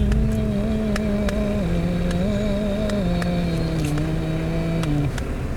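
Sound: car engine revving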